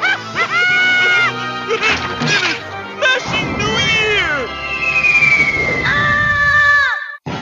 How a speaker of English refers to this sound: Yeah, there we go. That was a really thought out scream. That was really good acting there. yeah, I really felt the peril in his voice.